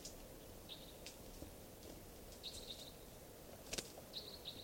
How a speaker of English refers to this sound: It sounds like a wild bird around here somewhere at 2:40 p.m. Song. Type 2, I believe.